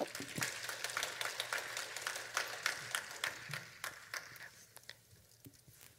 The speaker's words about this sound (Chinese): 我们热烈掌声欢迎她。